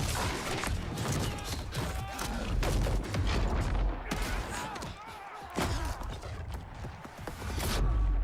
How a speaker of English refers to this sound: Slow motion, door breaching.